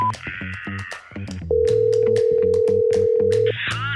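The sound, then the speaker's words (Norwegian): A single steady telephone ringback tone sounds for about two seconds while a call is placed to a number, clear and prominent, over rhythmic background music with a steady beat. “Så han gir oss noen andre numre vi kan ringe.”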